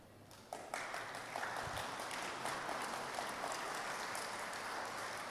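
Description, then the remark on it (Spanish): An audience in Mexico bursts into applause for a speaker, a dense, steady clatter of many hands clapping that swells quickly after a brief start and holds at a fairly loud, even level with no speech over it. “No esperaba el aplauso ayer, lo esperaba para dentro de 15 segundos, pero bueno.”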